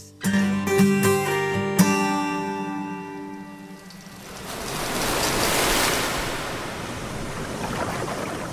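A few sustained musical tones fade away, then a broad rushing roar of ocean waves swells up and breaks, loud, as a surfer flips off his board and plunges into the ocean, continuing to the end with no voices.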